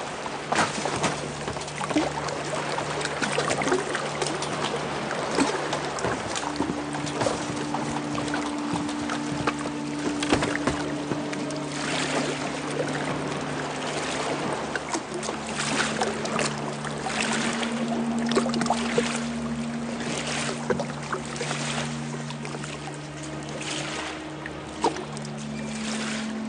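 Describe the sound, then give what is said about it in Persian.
Boats out on the water with boatmen ready and a favorable wind blowing, with a steady wash of lapping and splashing and low, sustained creaking or droning tones running beneath it throughout. No one speaks. “زورخ ها بر آبند و ملاحان آماده. باد مساعد وزان.”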